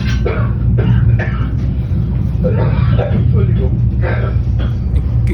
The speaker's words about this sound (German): Ganz schlimmer, aber leider auch sehr lustiger hessischer Hustanfall.